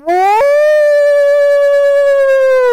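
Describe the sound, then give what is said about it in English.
A single loud wolf howl from the popples below a hunter's tree stand rises quickly in pitch, then holds a long, steady, mournful note for nearly three seconds, with no talking. “I got a pack of wolves down below me”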